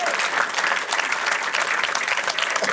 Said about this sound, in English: Otherwise, just tell you what, just keep applauding. Just keep applauding. I'll see what's happening. Applaud, damn you!